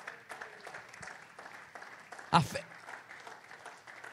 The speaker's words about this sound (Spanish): Den un aplauso al Señor, hermanos.